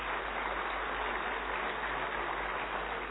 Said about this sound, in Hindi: जोर से ताली बजा करके बधाई दे।